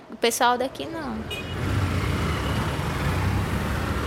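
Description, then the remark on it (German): Busy street traffic with motorcycles in Altamira, Brazil, a steady roar of engines filling the scene after a brief burst of voices at the start. “In allen boomenden Regionen Brasiliens schwärmen Motorräder durch die Straßen.”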